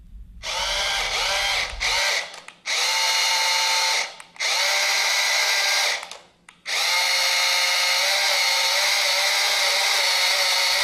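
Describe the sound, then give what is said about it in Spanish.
A remote-controlled toy car's electric motor whines in four bursts, a steady high buzzing pitch that rises and dips slightly as it revs, with brief pauses before a longer final run. “Se trata de un coche, ¿verdad? Un coche teledirigido.”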